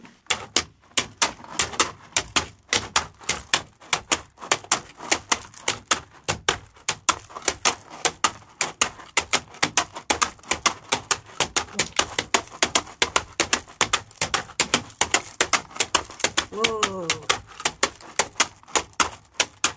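Foley of shod horse hooves clopping, made with real horse's feet from a taxidermist: a steady run of sharp, ringing clacks in a trotting rhythm for about twenty seconds, with the shoe and the weight of the hoof audible. A brief squeaky tone sounds near the end, with no talking.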